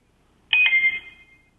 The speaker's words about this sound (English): All I got was a chime.